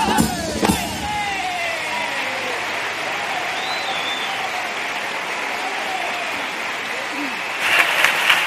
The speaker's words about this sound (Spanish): Muy aplaudida esta tanda de cuplé.